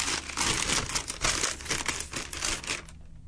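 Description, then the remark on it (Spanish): Paper crinkles and rustles steadily for about three seconds as a letter that arrived by post, bearing a Día del Niño stamp, is unfolded: a dense crackling texture with quick crisp bursts, then it stops abruptly. “Mira, llegó vía postal, tiene una estampilla que dice Día del Niño.”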